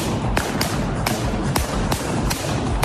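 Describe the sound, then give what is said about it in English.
Balloons being popped by stomping feet: about seven sharp, loud bangs at an uneven pace, each a quick crack over a constant rustling, crinkly background noise. “These are balloons he's popping with his feet.”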